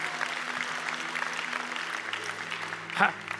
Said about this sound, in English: I wish I was preaching in Youngsville. I think they would have clapped right there. Abbeville is clapping right now.